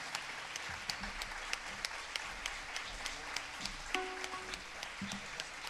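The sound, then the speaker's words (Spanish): A crowd applauds steadily to welcome a singer, many hands clapping in a dense, continuous patter with occasional sharper claps standing out, sustained throughout at moderate volume. “Por favor, fuerte aplauso.”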